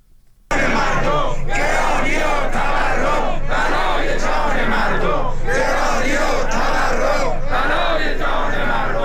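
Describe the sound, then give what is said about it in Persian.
A large crowd of retirees of the Social Security Organization, protesting their living conditions at rallies in Tehran in front of parliament and in other cities, chants loudly in unison, voices rising and falling in a steady repeated rhythm of shouted phrases, starting abruptly after a brief quiet moment and continuing without a break. “بازنشستگان سازمان تأمین اجتماعی امروز یک شنبه در اعتراض به شرایط معیشتی خود در تهران در مقابل مجلس و چندین شهر دیگر در مقابل استانداری‌ها تجمع کردند.”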